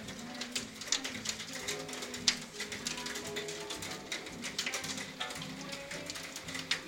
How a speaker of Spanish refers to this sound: En la tarde bogotana llueve, cae granizo sobre los vidrios y todo parece oscurecerse como si fueran las 6 de la tarde.